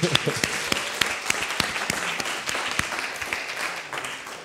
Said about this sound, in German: Die müssen nicht viel machen. Ein Applaus bitte.